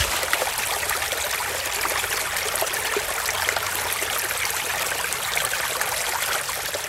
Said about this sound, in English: I recorded water from a creek near my house. It's just so soothing. I love like wandering through the creek.